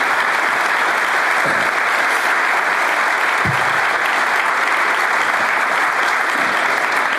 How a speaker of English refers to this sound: I'd like our trustees to stand and to give them a round of applause for all that they do for us every day.